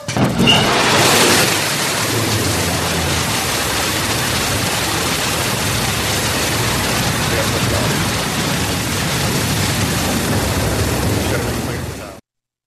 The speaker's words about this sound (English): Here's what it sounded like when Jeff Bezos took off to space this morning as part of his Blue Origin four-person capsule.